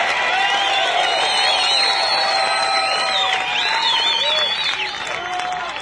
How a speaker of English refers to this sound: I got a nice round warm of applause. That's it.